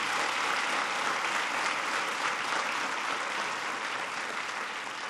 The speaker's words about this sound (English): I noticed some of the parents were the first to clap. They're all like, yeah. They like that.